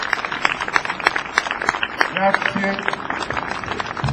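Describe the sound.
An evening audience in a piazza claps steadily in a dense, crackling wash of applause lasting several seconds, with a brief voice or two surfacing partway through.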